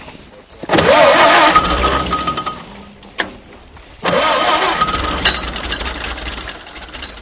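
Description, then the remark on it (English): An ice-cutting machine built in 1929 or 1930, run by an old Ford Model A engine, fires up loudly on a frozen pond and runs roughly for a couple of seconds, dies away, then catches again with a second burst and keeps rumbling. “The snow is swept from the pond's frozen surface, and Gary Cobb hauls the ancient ice-cutting machine out of storage. It was built in either 1929, 1930, and it runs off a Ford Model A engine.”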